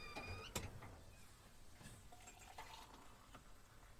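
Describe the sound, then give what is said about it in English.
A sharp clink of a container, then water trickles and pours into it, the tone rising slightly as it fills; quiet, with no one talking. “Just putting my water in.”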